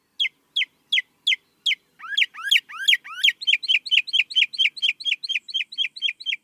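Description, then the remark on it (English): A mockingbird sings a rapid, high-pitched run of repeated phrases: four evenly spaced chips, then sweeping upward whistles, then a fast stream of bright repeated notes, loud and alone. “Mockingbirds sing a lot. They're masters of mimicry, and they're also prone to ramble on and on.”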